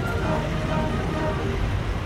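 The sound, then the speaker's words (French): Leclerc main battle tanks rumble past in a motorized military parade in a steady, loud, continuous roar dominated by deep low-end engine and track noise, with no break over the short stretch. “Là, il y a les chars Leclerc, ça fait du bruit.”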